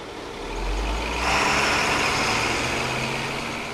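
A heavy truck engine rumbles low and steady, then swells into a broad roar as it revs and pulls away, at 7 in the morning as trucks take food out of a commercial kitchen in Warren, Michigan, just outside Detroit. No one speaks.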